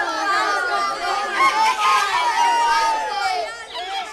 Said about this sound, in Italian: Sei giunto a scuola, finalmente. È appena in tempo. Il campanello squilla perentorio sul vocio confuso dei compagni e sull'ultimo richiamo burbero benefico del bidello.